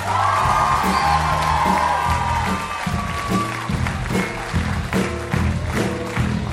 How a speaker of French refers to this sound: On applaudit tout de suite Antoine Cognam.